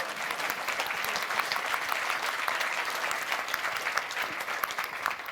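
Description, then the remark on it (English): An audience claps for the volunteer "angel" handling the microphone at a talk, steadily for several seconds, a dense wash of many hands with sharp overlapping pops, holding an even level throughout without fading. “So maybe a round of applause for our angel with the microphone.”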